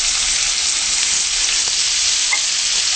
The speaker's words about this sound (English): Okay, that's good. And then we'll just stir fry our chicken now, our vegan chicken. Okay.